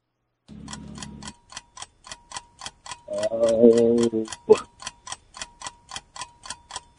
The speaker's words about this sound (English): Oh, there's the timer on that one.